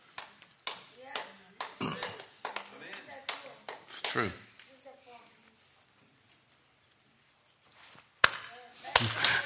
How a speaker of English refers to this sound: True. You can clap.